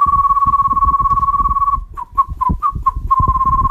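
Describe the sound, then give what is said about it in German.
A person whistles a steady, high sustained tone, then breaks it into a run of short rising chirps before settling back into the long note, with a low rumbling background underneath. “Und falls ihr jetzt sagt, ich kann sehr speziell pfeifen, so wie niemand anders, zum Beispiel so.”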